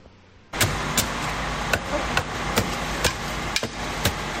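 A steady mechanical rumble of emergency service trucks cleaning the street drains in Paiporta in light rain, with sharp metallic clanks and knocks striking at irregular intervals over the continuous engine drone.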